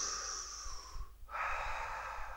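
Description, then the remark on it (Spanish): A long, deep breath drawn in through the lips like a cigarette drag by a person imitating smoking an imaginary cigarette, a brief pause, then a steady breathy exhale, fairly loud with no talking. “Otra fumada, otra respiración.”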